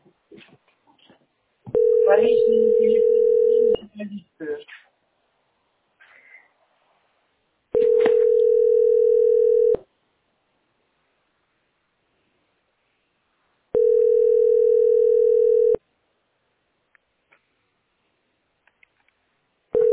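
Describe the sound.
A telephone busy signal sounds in three long, steady beeps of about two seconds each, separated by silent gaps, with faint voices and noises around the first beep.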